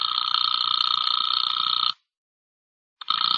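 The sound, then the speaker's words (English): A telephone rings over the line as a call goes through to a camp, a loud, steady electronic trill lasting about two seconds, then a pause of silence before the next ring begins. No one speaks. “In seconds, a line was through.”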